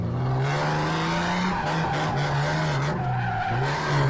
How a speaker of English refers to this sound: He speeds up, shifts gears, and drifts in full figure eight donuts, about five of them.